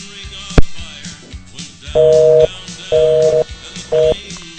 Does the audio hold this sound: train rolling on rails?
no